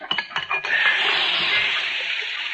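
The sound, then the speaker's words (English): A hot horseshoe, just shaped for a horse, plunged into water to quench it: a few sharp metallic clinks, then a loud, steady sizzling hiss that holds for about two seconds without fading much. “Now, we'll quench it and see how it fits.”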